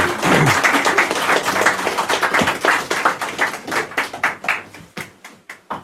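An audience applauds: dense, overlapping hand claps that start as a loud, continuous wash and thin out toward the end into sparser, distinct claps as the applause fades.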